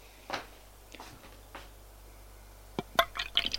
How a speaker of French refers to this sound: Elle va au bar. Je sers un verre.